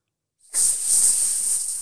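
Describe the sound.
A voice imitates the hiss of a king cobra: one sustained, breathy hiss starting abruptly and holding steady for over a second, fairly loud, with no other sounds.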